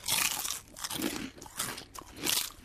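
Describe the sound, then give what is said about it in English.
Crunching of a salted egg yolk fish skin chip, several crisp, bright bites and chews in an uneven rhythm with no talking. “Would you like a salted egg yolk fish skin chip?”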